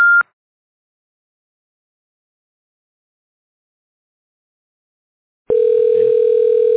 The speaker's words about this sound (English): state your name after the tone, and Google Voice will try to connect you.